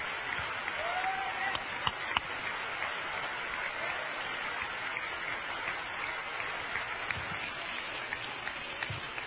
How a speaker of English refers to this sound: Put your Bible down and clap your hands and ask the Lord to help you.